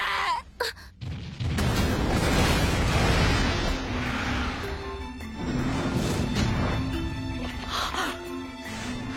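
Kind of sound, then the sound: nature, volcanic eruption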